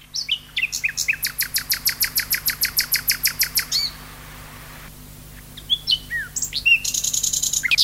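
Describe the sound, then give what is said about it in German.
A male common nightingale (Luscinia megarhynchos) sings alone: a loud, rapid run of repeated trill notes, a brief pause, then varied whistled phrases ending in a bright, buzzing trill. “was Sie gerade gehört haben, war der klassische Schlag der Nachtigall”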